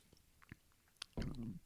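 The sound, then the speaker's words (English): Someone takes a quick sip of a drink up close: a few small wet mouth clicks, then a short, fuller gulping swallow. No one speaks. “I had to take a little sip there because my voice is getting tired, I guess, and getting ready to give out on me.”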